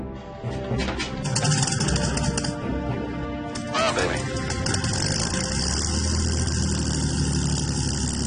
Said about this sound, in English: The Lancaster's four supercharged Rolls-Royce Merlin engines can generate up to